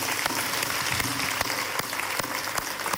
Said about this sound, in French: Franchement, vous êtes très beau, très joli. Alors, applaudissez-vous vous-même.